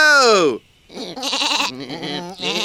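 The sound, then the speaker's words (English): Loud sheep bleating: one bleat dropping sharply in pitch, a short pause, then a run of wavering, quavering bleats with a nasal, buzzy tone. “Stupid sheep!”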